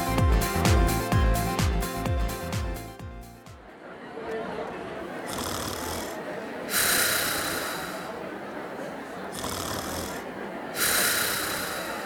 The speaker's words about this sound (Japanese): このいびきの主